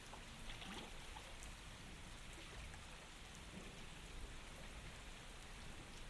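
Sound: rain falling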